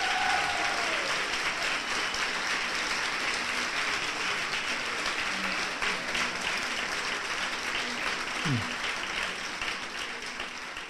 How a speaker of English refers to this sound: So why don't we take a little break? How about a big round of applause for this first segment here with Richard Dreyfuss?